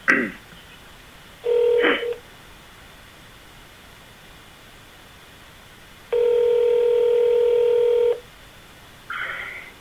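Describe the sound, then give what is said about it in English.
Telephone dialing tones play over a speakerphone: thin, steady electronic beeps in a few separate bursts, one short and one about two seconds long, with quiet line hiss between them. No one speaks. “Is there any way we can put her on speakerphone so she can...”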